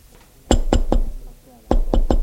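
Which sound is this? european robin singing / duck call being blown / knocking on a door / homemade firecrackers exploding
knocking on a door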